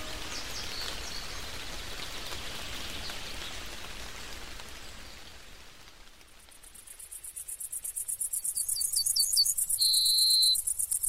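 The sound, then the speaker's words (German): Steady rain patters over an open wild meadow for several seconds, then gives way to a dense, pulsing chorus of crickets chirping rhythmically, with no voices. “Ein Festtag für eine Wildwiese ist nach einem Landregen aufkommende Sonne, ein leichtes Verdampfen, ein wärmer werden und dann krabbeln die Konsorten die Halme hoch und springen und fliegen, das ist eine Wonne.”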